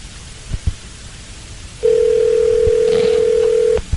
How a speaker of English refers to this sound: At this point, I probably looked down at the phone and was like, do I have to answer it? It's rang three times. Surely they'll go away.